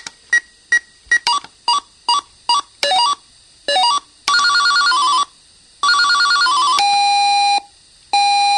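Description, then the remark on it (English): Electronic alarm clock tones played while selecting the alarm sound in the clock's setup menu: a quick series of short, bright beeps, then several longer warbling, ringing bursts in changing patterns, loud and with no voices. “Alarm on, snooze, set alarm hour, set alarm minute, set alarm volume, set alarm sound.”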